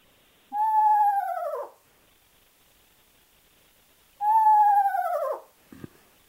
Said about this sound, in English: Tyler, I think, has a screech owl clip as well. Tyler, have you got that clip?